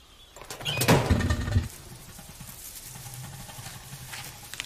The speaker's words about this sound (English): Daisy watches fascinated as he puts the bird inside and shuts the open lid